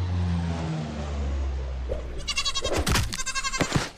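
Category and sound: animal, goats bleating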